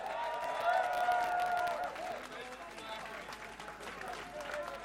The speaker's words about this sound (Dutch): Mag ik nog één applaus, alsjeblieft?